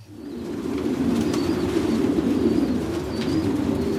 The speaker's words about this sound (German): zeigt seine Brieftauben.